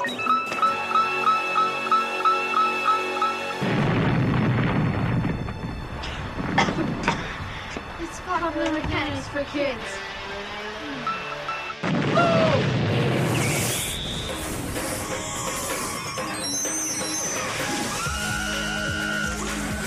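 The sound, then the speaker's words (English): A car blown up on a movie set: a loud blast erupts after a pulsing tonal stretch, followed by rumbling and crackling debris, then a second powerful boom that trails off into a long, noisy rumble. “And now I go to a movie set to see the right way to blow up a car.”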